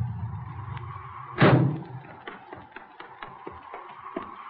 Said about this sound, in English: Hey, listen. Here comes a car.